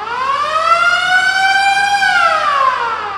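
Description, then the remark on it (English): A gym lunk alarm at the Planet Fitness in Fishtown blares on its own: a loud, buzzy siren wail that slowly climbs in pitch for about two seconds, then sweeps back down as it winds off. It goes off when someone makes too much noise lifting weights. “My gym is the Planet Fitness in Fishtown, and if you're a member there, you've probably heard the lunk alarm. It's an alarm that goes off if you make too much noise lifting weights.”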